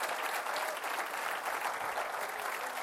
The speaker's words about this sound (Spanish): ¿Cuántos le alaban en esta mañana? Dele un fuerte aplauso. Pero échele ganas.